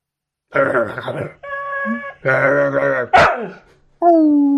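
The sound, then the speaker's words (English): A male dog barks loudly, a short run of about five separate barks and yelps with brief gaps, some drawn out into a whiny, howling tone. “My microphone appears to be noisy, it just said when he barked.”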